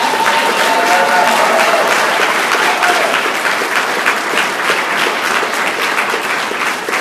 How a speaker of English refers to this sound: You go ahead and applaud.